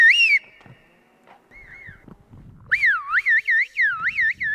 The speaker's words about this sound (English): Although he's mainly interested in pure brain research, Güntürkan wonders if a whistled language might be helpful to, say, a stroke victim with left hemisphere damage who has difficulty processing spoken language.